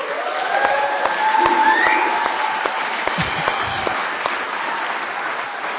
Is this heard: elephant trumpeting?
no